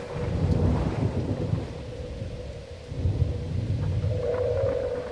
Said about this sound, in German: Da, ein gewaltiger Blitz traf das Schiff. Der Hauptmast brach.